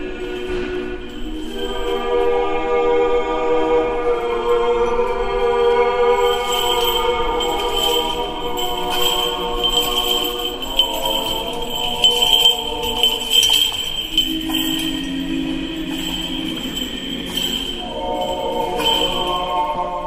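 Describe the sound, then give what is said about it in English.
Metallic jingling of the chains of a swinging hanging censer that burns incense, clinking in brief irregular bursts beneath sustained choral singing that carries through the whole passage of an Eastern Orthodox service. “What you're hearing are the chains from swinging a hanging censer burner, a usually gold-plated, highly decorated, kind of egg-shaped container that burns incense”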